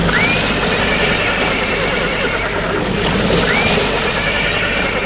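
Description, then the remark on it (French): Two horse whinnies from two white chariot horses ring out a few seconds apart over a constant loud rushing background, like wind or a bustling outdoor crowd. “Le char, c'est le char d'Achille, avec deux magnifiques chevaux blancs.”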